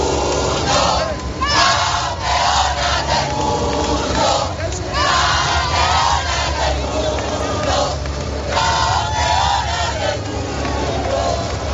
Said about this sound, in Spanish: Y estos son los gritos de la foto de familia.